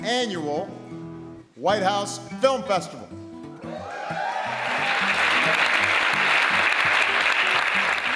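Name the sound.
audience cheering and applause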